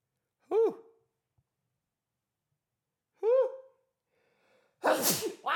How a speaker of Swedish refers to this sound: Jävlar, vilken jävla, vilken jävla nys.